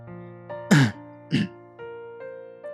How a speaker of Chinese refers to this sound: 我故意咳嗽了两声，妈的，楼灯又坏了，我忍不住骂了一句，掏出手机摸黑上了4楼。